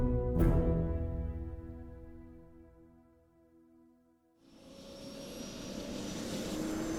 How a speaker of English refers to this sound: on to the chopper, and be quick about it.